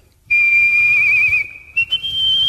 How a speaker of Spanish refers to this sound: ¿Se escucha el aire? Hombre, es que el silbar